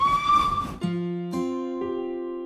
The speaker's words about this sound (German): Mit der Dampflok.